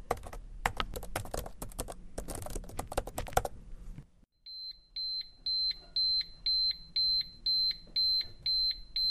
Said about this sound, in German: Na, habt ihr es erkannt? Das waren eine Schere. Würfel und die Computertastatur.